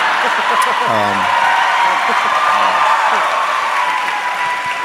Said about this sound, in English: Well done. Cheap applause.